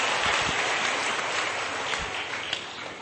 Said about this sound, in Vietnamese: Chúng ta cho một tràng pháo tay để chào mừng hai người chị em này.